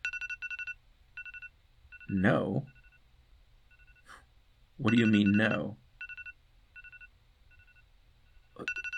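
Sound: phone alarm ringing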